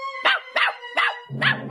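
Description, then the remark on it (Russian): A puppy lets out four quick, high-pitched yapping barks in an even rhythm, fairly loud, with no one talking; the last bark sounds a little rougher. “Залаял щенок.”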